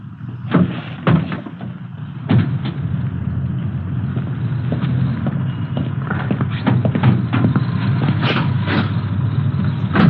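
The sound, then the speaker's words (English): A Cadillac's hood latch clunks open, followed by a series of sharp metallic clicks and thumps as the hood is lifted to check the engine number, set against a steady low rumble of background noise. “Yeah, I'll get the hood released.”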